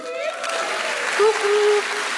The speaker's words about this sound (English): Did you hear her say middle school? I think she needs a little louder cheer than that.